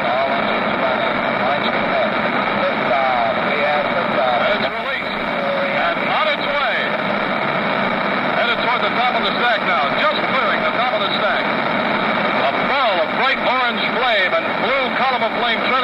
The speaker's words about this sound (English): 10, 9, 8, ignition sequence start, engines on, 5, 4.